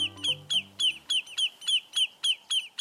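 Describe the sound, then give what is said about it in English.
Lesser yellowlegs, shorebirds sensing a threat to their nest, give alarm calls in a rapid, steady series of about ten sharp, loud, insistent notes, with a low tone fading out beneath the first few. “But when the shorebirds called lesser yellowlegs sense a threat to their nest, they'll put up an unforgettable racket to drive the danger away.”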